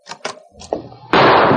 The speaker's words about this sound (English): As the door opened, a shot rang out.